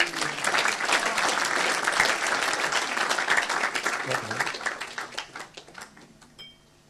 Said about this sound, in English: Give the Lord a clap.